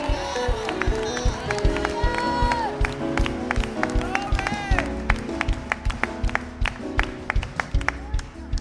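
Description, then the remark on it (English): A church audience claps in praise to God in a steady, driving rhythm, the sharp beats ringing out loudly over sustained singing voices and music that carry on throughout. “Now stop acting foolish and give God some real clapping and praise.”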